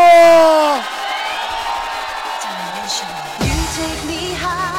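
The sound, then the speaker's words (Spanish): A loud, processed shout rings out over a dense crowd roar, then sweeps downward, followed by a sudden whooshing burst as cheering and whooping swell again; a new recorded DJ shout jingle. “Venga, venga, ahí tenéis uno de mis nuevos cantaditos, la puta bomba.”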